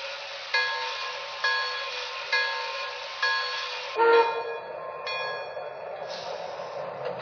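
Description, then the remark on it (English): A passenger train, train number 39, the Clevelander, sits on track one at the Harrisburg station platform, with a steady rumble and a regular repeating chime or clank about every second before the engine noise swells and a horn-like tone sounds. “New York on track one, train number 39, the Clevelander.”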